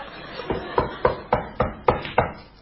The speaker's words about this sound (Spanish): Ah, me pareció... alguien golpeando el despacho. Estoy golpeando la puerta.